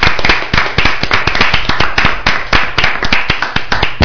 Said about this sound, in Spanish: La verdad que se merece un aplauso.